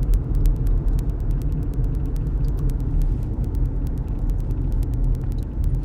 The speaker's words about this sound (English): And, of course, this guy's cutting over four lanes of traffic to make a left turn that he realized he just had to make. Well, that's what happens when you're driving traffic.